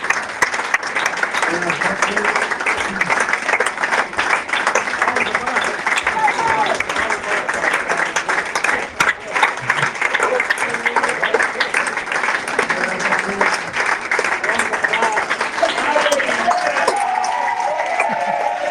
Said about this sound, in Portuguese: tenemos audio. Aplausos abrumadores.